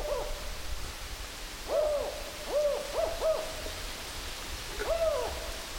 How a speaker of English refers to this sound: And swiftly, a large shadow passes over us, and we can hear them, the pair of owls, talking to each other.